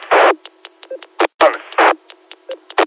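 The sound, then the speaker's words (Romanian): A radio roger beep amid a choppy run of transmissions: loud bursts of hissy squelch static alternate with short clicks and brief low electronic beeps in an irregular, stuttering rhythm. “Dacă îmi place și mie Roger bipul ăla și vreau să rog frumos să fac și eu așa ceva, dacă poate să-mi facă.”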